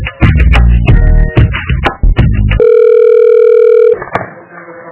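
Loud clattering of a telephone handset at the door being handled, then a steady electronic line tone holds for over a second before fading into a quiet, hissy open line. No one speaks.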